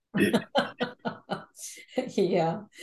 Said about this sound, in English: Here I am wanting to share God's information, and now I'm having trouble coughing.